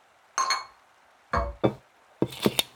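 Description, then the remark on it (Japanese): A ceramic tea-set plate is set down with a few clinking contacts, separate taps followed by a quicker cluster of bright clinks and rattles, no voices present. “そのティーセットのお皿をここに置いて。”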